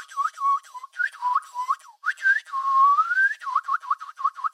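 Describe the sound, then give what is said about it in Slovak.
Someone whistles short, bright chirps in quick bursts, with one longer rising glide in the middle, mimicking a small bird's peeping. The whistling is clear, with no talking. “hneď začínam s pískaním, ktoré napodobňuje pípanie malého vtáčika.”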